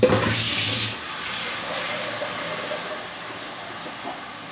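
About 2 liters of water pour steadily into a large, wide cooking pot, opening with a loud hissing splash before settling into a continuous rushing stream for several seconds, with no voices.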